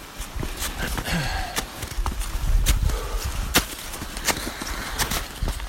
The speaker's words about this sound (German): Ja, also da man hört das schon, dass es echt anstrengend ist, und man hört auch, wie die Steigeisen so in den Schnee, also in die oberste Schicht des Gletschers, die aus Schnee bestand, so reinschlagen,